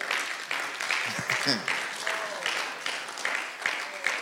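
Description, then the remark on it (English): An audience claps steadily throughout, a dense crackling wash of many hands with a loose pulsing rhythm, while faint voices murmur underneath. “You are not clapping.”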